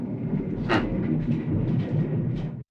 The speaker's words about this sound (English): In that clip, you can hear an airplane going overhead.